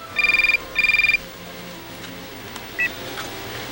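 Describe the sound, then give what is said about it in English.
A telephone rings twice in quick, warbling electronic bursts, fairly loud, followed by a brief click-like beep as it's picked up. No one speaks. “Why don't we play back that phone call that you just described?”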